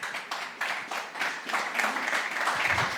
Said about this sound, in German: Applaus für Nina.